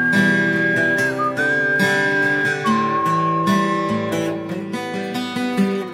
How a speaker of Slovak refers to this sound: Na chrbte viac, ako môže znieť, aj tak si pískal. Stále si pískal.